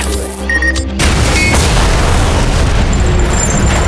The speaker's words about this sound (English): The high-powered blast blew a hole in Hazel's chest, the size of a small dog.